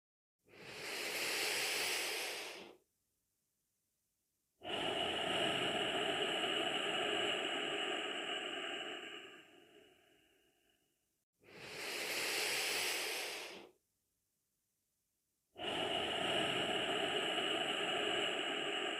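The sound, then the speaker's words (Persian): Slow, deep breaths demonstrated with eyes closed at the start of a guided meditation: a hushed inhale followed by a longer, airy exhale that fades out, then a pause, repeated twice with no talking, each breath a broad soft hiss. “از شما میخوام بعد از بستن چشم ها 3 تنفس عمیق و آرام انجام بدین. به این شکل.”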